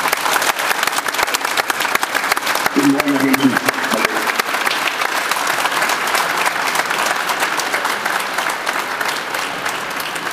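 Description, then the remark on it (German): Sustained applause from a crowd on the TV show Doppelpass, welcoming VfL Bochum coach Dieter Hecking, a dense steady clatter of many hands clapping at an even loudness for about ten seconds, with a brief voice rising under it partway through. “Herzlich willkommen, einen warmen Applaus spenden wir rüber an Dieter Hecking.”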